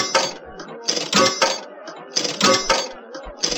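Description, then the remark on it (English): Four coins clink into a slot machine game in four bright, metallic bursts, spaced roughly a second apart, fairly loud with a faint rattling tail between drops. “Let's insert 4 coins.”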